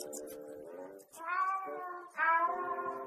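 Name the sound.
cat meowing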